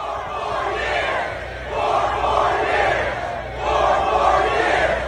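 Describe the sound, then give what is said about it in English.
A large crowd at an auditorium rally in Jeff Van Drew's district chants "four more years" in loud, steady unison, the phrase rising and falling in about three rhythmic rounds with no separate voice speaking over it. “It's the people shouting four more years.”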